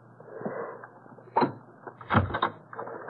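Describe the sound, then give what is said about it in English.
A bolt on the inside of a door is drawn back with a sharp clunk, followed moments later by a heavier rattle and thud as the door is pulled open. “Why was the door bolted from the inside?”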